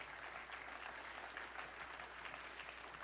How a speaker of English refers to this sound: Give him a good clap offering in.